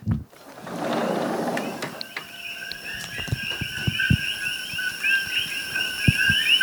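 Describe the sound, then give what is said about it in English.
A steady chorus of high, chirping calls from invasive coqui frogs, native to Puerto Rico, fills the night air on the Big Island near Hilo after a brief rustle, with soft thuds of footsteps underneath and no one talking. “Okay, so these are these invasive koki frogs. They're native to Puerto Rico, but they're called koki frogs from what I remember because they go koki, koki.”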